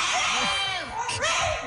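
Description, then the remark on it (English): A dog lets out loud, shrill screaming howls, its pitch sweeping up and down in wavering, continuous cries, after its owner decided it had had enough Cheerios. “If I give you more Cheerios, will you stop screaming? Okay.”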